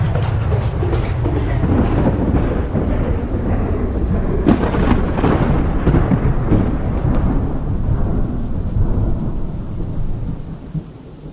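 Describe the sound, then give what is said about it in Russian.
A heavy peal of thunder rolls on for several seconds, deep and loud, with a sharper crack partway through before the rumble slowly fades, over a steady hiss like rain. No one speaks. “И следует вспышка. И громовой раскат.”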